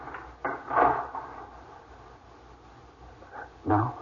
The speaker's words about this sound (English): Lock the door, dear.